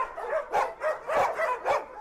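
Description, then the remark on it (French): Several dogs bark in overlapping bursts, a steady clamor of yaps and woofs at an overcrowded municipal dog shelter on the outskirts of Moscow, built for 400 or 450 dogs and now holding 600; loud with no voices. “Initialement, ce refuge était prévu pour accueillir 400 ou 450 chiens. Aujourd'hui, nous en avons 600.”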